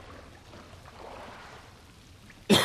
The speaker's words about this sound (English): Sorry for the coughs. It's speaking of summer. There are forest fires everywhere. And it is so smoky and my throat hurts like none other.